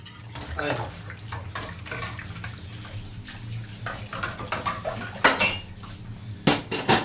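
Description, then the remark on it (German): A man washing dishes by hand: a steady wash of running water with scattered clinks of plates and cutlery, and a few sharper, louder clatters toward the end. “Der Mann ist die beste Spülmaschine, die es gibt. Geht nie kaputt. Funktioniert immer.”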